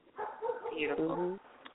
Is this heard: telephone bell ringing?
no